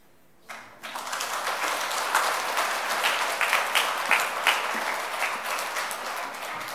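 An audience breaks into applause for the prize winners at an awards ceremony of the 18th Bible recitation and writing contest held by a Presbyterian Sunday school association in Daegu, after a brief quiet start, a dense, steady patter of many hands clapping that holds at an even loudness for several seconds without any speech.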